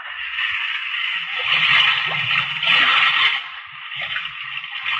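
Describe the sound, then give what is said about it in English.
Rough sea water churns and sloshes steadily over a sinking ship, a dense rushing wash with low gurgling surges that swell and ebb over a few seconds, fairly loud and continuous, with no voices. “The 23 men in his boat also looked toward the spot where they knew that their ship was being buried by an angry sea.”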